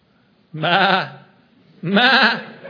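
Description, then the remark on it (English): A sheep bleats twice, fairly loud, each call a wavering, quavering baa lasting about half a second, with a short pause between them and no talking. “I can hear Moses out there with the sheep and the Lord saying to him, see yourself, Moses?”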